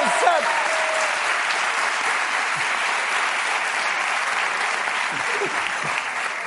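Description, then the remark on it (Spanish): Sustained audience applause, a dense steady wash of many hands clapping at a constant, fairly loud level throughout, with faint voices and a brief whistle-like tone near the start. “Bueno, antes de nada, un aplauso”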